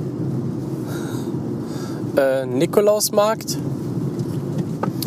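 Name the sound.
car driving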